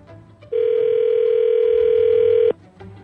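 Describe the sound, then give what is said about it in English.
A telephone line rings with one steady, loud electronic tone lasting about two seconds, then cuts off, leaving faint background noise; no individual dialing beeps stand out. The call is placed by the fake radio morning show Scotty and the Buzz on K98. “So we are going to call the girl.”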